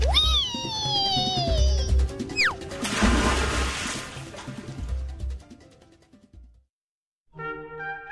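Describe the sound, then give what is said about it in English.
A cartoonish slide down a water slide on a cruise ship: swooping, whistle-like pitch glides end in a loud splash of water that fades to silence, followed by a brief bright chime. “Water slide, water slide! Go for it, Gemma.”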